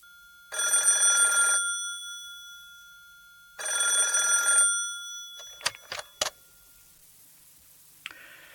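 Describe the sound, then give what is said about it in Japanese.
A telephone at the Inochi no Denwa suicide-prevention helpline rings twice in long, buzzing bursts with a pause between, followed by a few sharp clicks and clatters like the receiver being picked up. “はい、命の電話です。どうかなさいましたか？”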